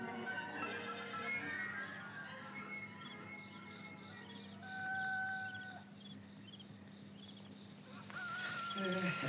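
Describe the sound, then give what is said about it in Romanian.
Roosters crow at midnight in drawn-out, wavering calls, one after another, set against a steady low drone with a busier burst of sound near the end. “Cocoșii vestesc miezul nopții.”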